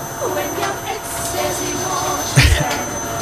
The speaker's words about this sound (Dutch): Even draaien onder het stofzuigen door. Wat een herrie, man, hier ook.